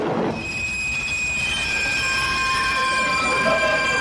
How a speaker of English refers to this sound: As this train just pulled into the station.